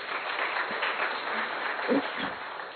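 Steady audience applause, a dense wash of many hands clapping at an even loudness throughout, with a brief murmur of voices near the end.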